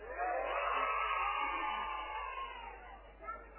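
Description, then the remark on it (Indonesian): A large audience shouts and cheers together in response to a speaker's question, in a sustained, loud roar that holds for a few seconds before easing slightly, with a brief swell near the end. “Karena pengennya aja teriak, pengen sugih napa melarat?”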